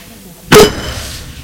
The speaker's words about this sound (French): Je vois crier, casser, serre les poings et donne un coup à son bureau.